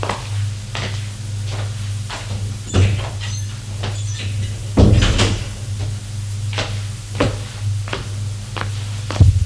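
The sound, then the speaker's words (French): Cupboard doors and drawers in an attic open and shut, a series of irregular wooden knocks and clunks over a steady low hum, with a louder bang partway through. “Regarde les tiroirs, les armoires. Il n'y a rien, tout a été vidé.”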